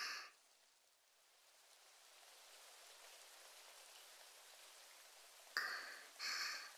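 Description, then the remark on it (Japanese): Steady rain hisses, growing gradually louder and denser as the downpour strengthens, with a couple of brief brighter bursts near the end. No one speaks. “またちょっと雨強くなってきましたね。”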